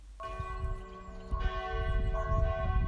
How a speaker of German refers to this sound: Alle Glocken gehen, ihre Töne schwellen, Himmellan aus Kirchen und Kapellen. Ein Klingen und Läuten, sonst schweigt die Stadt, ein Dienst nur, den sie heute hat.